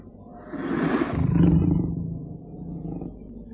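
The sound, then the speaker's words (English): A leopard on a hillside at night, disturbed by the scent of men, coughs angrily: one harsh, rasping, low-pitched call that swells loud in the middle, then trails off into a quieter guttural rumble. No one speaks. “They picked their way down to the bottom of the hill, and as they once again rested, the leopard, disturbed by the man scent, coughed angrily.”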